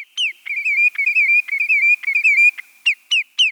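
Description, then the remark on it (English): A sandpiper in its nesting territory in Alaska, perched atop a spruce tree, sings a caroling song: a fast, rolling run of high, bright whistled notes that ripples on steadily, then breaks into three separate sharp calls at the end. No one speaks. “That's right, a sandpiper perched at the top of a tree like our backyard robins, singing its caroling song.”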